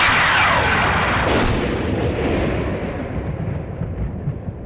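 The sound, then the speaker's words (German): A sharp, very loud thunderclap from a lightning strike in Elmshorn, following a bright flash, bursts and then rolls on as a heavy rumble that slowly fades over several seconds, with no voices present. “Da sieht er ein helles Licht aufblitzen, gefolgt von einem lauten Knall.”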